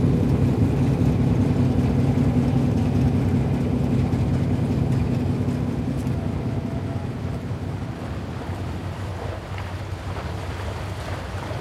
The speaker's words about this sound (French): La barge chargé de 1829 tonnes. C'est là l'arrière.